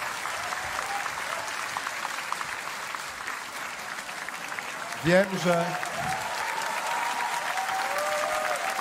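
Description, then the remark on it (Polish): An audience at the Kampus Polska Przyszłości event claps steadily and continuously for Polish left-wing leaders Włodzimierz Czarzasty and Robert Biedroń, a dense, even patter of applause, with a brief voice cutting through partway in. “Wielkie brawa.”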